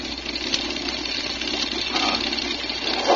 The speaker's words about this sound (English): Pilot, flight 22 to control tower. Engine missing badly. What do you want us to do? Over.